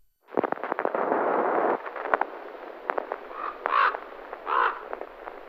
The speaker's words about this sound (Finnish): Korpit raakkuvat järven yllä. On harmaata ja utuista.